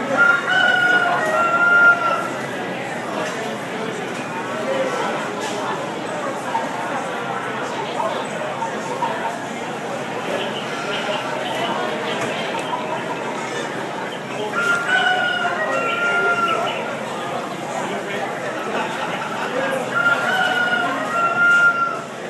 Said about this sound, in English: I grew up on a real farm and they really sampled it sounded like a real chicken was loose in the store, but it would come out of its little door sort of, you know, like a German clock every once in a while. And it would roar and go back in.